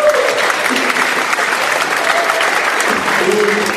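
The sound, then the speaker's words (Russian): A crowd applauds steadily for several seconds, a dense, even wash of clapping at constant loudness with faint voices murmuring underneath. “Потребуем аплодисменты.”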